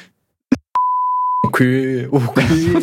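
censor bleep tone

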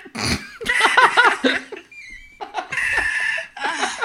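seagull calls

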